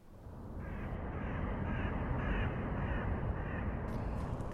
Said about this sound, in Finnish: Harmaatakki valloitti kaupungit vasta toisen maailmansodan jälkeen ja 80-luvulla varis oli jo joka paikan lintu.